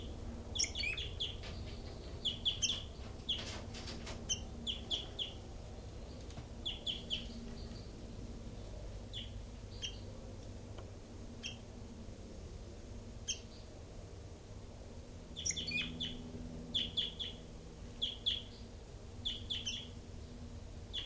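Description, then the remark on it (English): Caged birds in cells, among them bird 3-3, give repeated short, high chirps and tweets in scattered bursts over a steady low hum, with busier clusters of calls near the start and again later on. “Recording is bird 3-3 and so on.”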